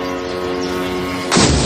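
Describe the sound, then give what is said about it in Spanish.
A steady, tonal engine-like drone of drones flying over homes in Moscow hums throughout, then a sudden loud burst of anti-aircraft fire against the drones erupts near the end and carries on as a harsh, noisy roar. “Las autoridades rusas aseguran que todos estos aviones no tripulados han sido derribados, unos con medios de guerra electrónica y otros utilizando misiles y artillería antiaérea.”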